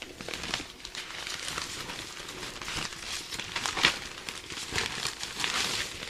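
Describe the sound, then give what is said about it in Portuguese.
The pages of a printed newspaper are turned one by one: soft, steady rustling and crinkling of paper, with a few sharper crackles rising above a continuous papery hiss and no voices. “E nas viradas das páginas, tem aquele barulhinho característico.”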